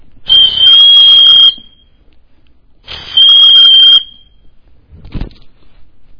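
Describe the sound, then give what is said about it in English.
Two long, shrill referee's whistle blasts blown by an official on a playing field, each about a second long with a trilling pea-whistle buzz, loud, followed by a short thud. “And when they don't play by the rules, what does the official do? He blows a whistle.”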